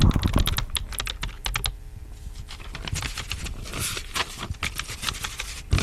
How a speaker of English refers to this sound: Do you hear the typing?